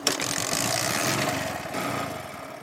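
A small Bajaj Boxer motorcycle engine runs steadily at a fast idle, its rapid, even putter fairly loud throughout, with no voices.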